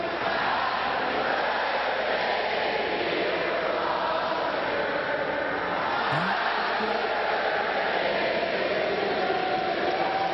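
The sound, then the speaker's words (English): A large tennis crowd roars and cheers in a dense, steady wash of noise that holds loud and unbroken for the whole stretch, with no clear individual voices standing out. “But tennis crowds, they're a little different, aren't they?”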